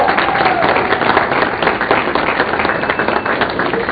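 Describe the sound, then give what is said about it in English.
A crowd applauds steadily for Team Kaizen member Nancy Claremont Carr from Chanhassen, Minnesota, many hands clapping in a dense, continuous patter that holds at an even, fairly loud level throughout. “Let's give Nancy a round of applause.”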